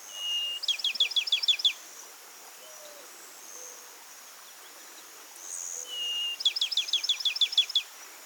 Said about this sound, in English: It used to be called the pinewoods sparrow, and that's a pretty good name because this bird breeds in mature open pine forests in the southeastern U.S. It's a secretive bird with a lovely little song and streaky brown, gray, and rust-colored plumage.